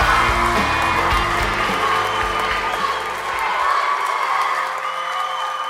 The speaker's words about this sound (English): and the crowd goes wild